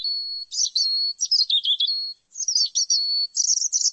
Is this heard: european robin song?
yes